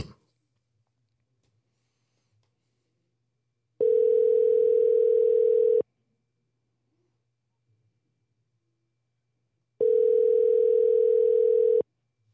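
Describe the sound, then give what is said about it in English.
A phone call to a QT store in Tempe rings out twice, each ring a steady two-second mid-pitched tone, separated by several seconds of near silence with a faint low hum underneath. No one speaks. “All right, and we're calling a QT.”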